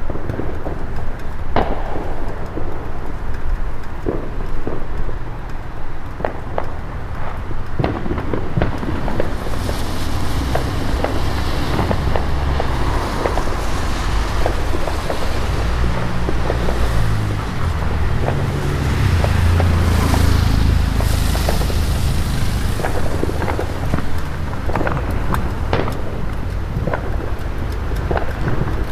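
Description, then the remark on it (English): Fireworks pop and boom outdoors after a drenching thunderstorm, in a steady stream of overlapping bursts, with sharp cracks over a constant low rumble and wind-like hiss; no one speaks. “And the state's been worried about fires starting with all these fireworks, but I guess since we had a good thunderstorm and a nice drenching, everybody's come back out in full force.”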